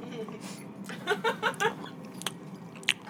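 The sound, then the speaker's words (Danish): Someone chewing a chocolate-caramel giffel pastry with four quick, moist crunching bites in a row, then a couple of softer sticky smacks and a brief sharp click, over a low steady background hum. “Og det er ikke, sådan en hyped Juno giffel. Det er en pukken. Nå, vi kommer til V'en, og jeg spiser kun deres snore.”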